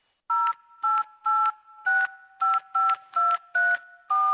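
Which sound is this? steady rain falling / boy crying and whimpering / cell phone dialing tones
cell phone dialing tones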